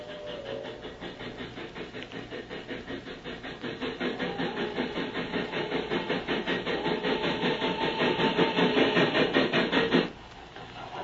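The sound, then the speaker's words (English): The first train draws steadily closer along the railway line, its wheels beating a fast, rhythmic clatter over the rails that swells louder for about ten seconds before cutting off abruptly. No one speaks. “There's the first train. Just hitting the grid.”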